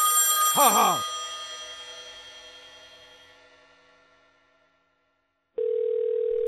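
A single telephone bell ring clangs once and slowly fades away over several seconds, then after a brief silence a steady, droning dial tone starts. No one speaks.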